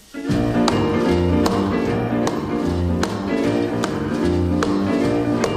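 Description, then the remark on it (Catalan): A loud rock and roll intro plays with a walking bass line and bright rhythmic tapping hits landing in a steady, evenly spaced beat, no voices yet. “Avui el nostre viatge al passat ens porta a escoltar una de les cançons més conegudes del rei del rock.”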